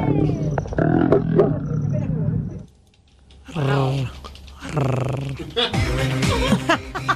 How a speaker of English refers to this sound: When a couple of lions jumped on top of the Jeep and started getting it on, tourists... Boy. Hit record, and they got some amazing audio from the experience.